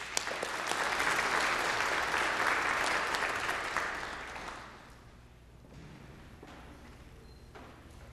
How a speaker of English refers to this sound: So let's give her a warm round of applause and welcome.